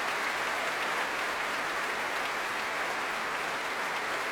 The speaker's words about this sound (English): finally stepping forward to receive the applause himself